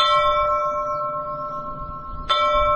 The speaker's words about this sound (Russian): Есть колокола с глухим, я бы сказал, даже шипящим, как бы это странно ни звучало, но вот колокола порой дают самые удивительные тембры.